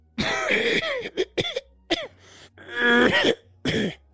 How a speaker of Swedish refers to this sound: Det är en 76-årig man från Boden som har rökhosta. Han sitter alltså och hostar i alla avsnitt och det är verkligen